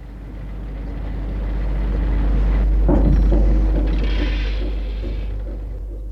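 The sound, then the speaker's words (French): A van drives steadily along, its deep engine rumble and road noise droning continuously, swelling slightly louder midway with a brief rattle before easing off. No one speaks. “une camionnette qui roule, qui roule, qui roule.”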